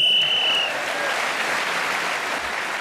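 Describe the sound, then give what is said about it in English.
A single steady, high-pitched game show whistle blast ending the round as Tony Hawk is speaking, lasting under a second, then loud, sustained applause and cheering that carries on to the end. “So Tony Hawk speaking as the whistle and gained that extra point.”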